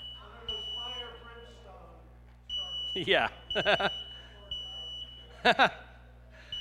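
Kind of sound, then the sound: household object, smoke alarm going off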